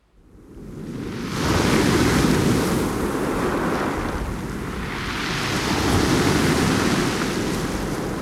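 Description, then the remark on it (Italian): The current of the Adda river rushes steadily past its bank, a dense, continuous roar of flowing water that swells in quickly and then gently rises and falls, with no voices. “Ti leggo seduta sull'argine di uno dei fiumi che fanno parte delle mie storie, l'Adda, e immagino che le tue parole arrivino trasportate dalla sua corrente.”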